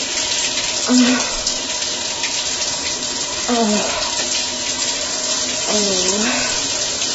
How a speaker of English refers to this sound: that hard stream of water coming right out of the shower massager. As hard as I can get it on the highest pulse setting. It's not even a pulse, it's just a straight stream of water.